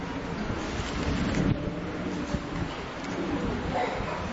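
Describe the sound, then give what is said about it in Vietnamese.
An audience applauds to welcome members who have come from other provinces, in a dense, steady wash of clapping that holds at an even, fairly loud level for the full four seconds, with no voices rising above it. “Những anh chị em từ nơi khác đến đây giơ tay, chúng ta hân hoan chào đón những anh chị em ấy một tràng pháo tay thật lớn.”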